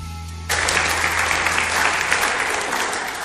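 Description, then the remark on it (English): An audience at a Sunday service of Belfast City Vineyard church breaks into loud, sustained applause as the speaker comes up, after a brief low hum, many hands clapping in a dense, steady wash that holds at full strength without any voices. “They don't clap when I come up at my church.”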